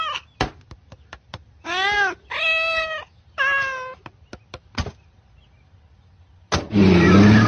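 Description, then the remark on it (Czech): A cat meows three times in quick succession, drawn-out, with sharp clicks and knocks scattered around the cries, before a loud rushing, engine-like noise bursts in at the end. “Honem, synku, musíme spálit všechno, o co se ta kočka otřela, než nás ten virus vyvolá paranoju.”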